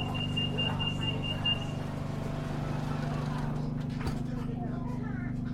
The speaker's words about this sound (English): Nine rapid beeps mean the doors are about to shut.